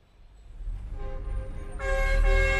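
Car horns honk over a low rumble of idling traffic in a smoggy Beijing traffic jam, one sustained tone rising first, then louder, overlapping blasts joining in near the end.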